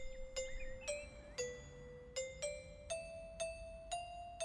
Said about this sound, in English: The crumble lady rang the doorbell.